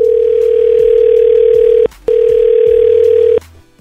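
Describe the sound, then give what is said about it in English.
A loud, steady telephone tone as a radio station places a call sounds in two long unbroken stretches separated by a brief silence, a flat mid-pitched hum like a line waiting on a call, with no voices. “So let's call him.”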